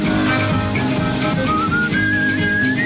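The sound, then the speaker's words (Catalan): Upbeat, cheerful music plays steadily at full volume, with a bright whistled melody gliding and rising above the instruments. No one speaks. “I és veritat, noi, et venen ganes de xiular.”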